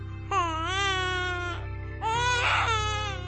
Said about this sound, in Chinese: 夜空极静，星星在天空闪烁着，马棚中传来婴儿诞生的声音。